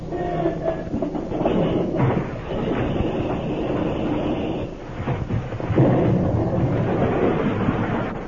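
An airplane engine, just repaired, starts up into a loud, rough, sputtering roar that runs steadily, dips briefly partway through, then surges back even louder. No one speaks.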